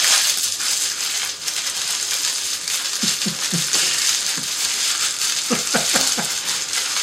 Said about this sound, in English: We're doing the podcast in the rain. Wait for it. There's gonna be more noise. There's gonna be more.